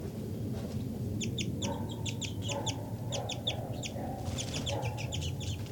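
A bird, identified as 5-9, gives flight calls: clusters of short, high, sharp chirps repeated in quick bursts over a steady low rumble of background noise, with no one talking.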